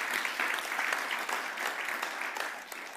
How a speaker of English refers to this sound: So can we have a round of applause for everyone who's helped in the building?